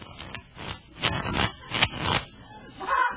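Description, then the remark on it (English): Papery riffling and scraping repeats in several quick bursts over a few seconds, moderately loud, as a deck of playing cards is shuffled by hand before dealing a card game. “Very well. I'll shuffle.”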